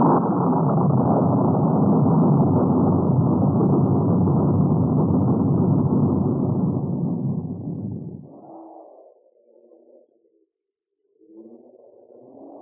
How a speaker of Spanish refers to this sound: Fluye apenas la sangre cuando el trueno los dioses dejan oír.